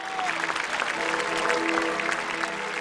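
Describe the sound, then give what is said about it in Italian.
A large crowd of worshippers applauds steadily at the end of a Mass, a dense wash of many hands clapping throughout, with the sustained ringing tone of the great medieval bell of Erfurt Cathedral humming faintly beneath the clapping. “Al termine della messa, tra gli applausi dei fedeli, ha iniziato a suonare la famosa campana del Duomo di Erfurt, chiamata La Gloriosa, la più grande campana medievale del mondo.”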